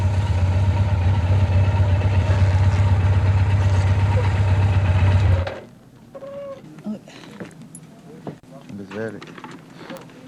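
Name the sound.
motorcycle engine idling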